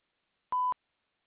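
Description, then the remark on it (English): A single clean voicemail beep, a steady mid-pitched electronic tone lasting about a fifth of a second, sounding alone and fairly quiet with silence before and after. “You know what to do after the beep.”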